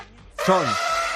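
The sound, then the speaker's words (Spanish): A single loud elephant trumpet, presented as from one of the last four circus elephants in Denmark, blares out after a brief quiet moment, a brassy, harmonic-rich call that bends upward and then slides down, sustained for under a second with no talking. “Estas son las declaraciones de los 4 elefantes”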